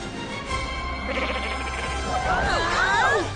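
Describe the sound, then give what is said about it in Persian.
A black sheep bleats once near the end, a loud wavering cry that rises and falls over about a second, preceded by a low background hum with no talking. “گوسفند سیاه خوبه.”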